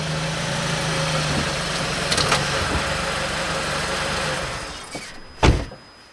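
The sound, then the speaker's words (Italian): A rental Volvo's engine idles with a steady low rumble and hum, then quiets toward the end, where a short sharp knock or thump sounds, in Sweden on a cold winter day while it is still dark outside. “Ecco la macchina, sicuramente, è lei.”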